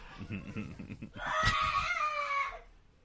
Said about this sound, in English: I like the Gorn wedding part, though. You probably could leave that with the kids screaming.